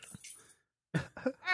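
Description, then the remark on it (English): A person's voice imitates raptor noises: a soft, breathy sound, a pause, then two short throaty bursts and a rising, high-pitched screech. “See, I can make like raptor noises.”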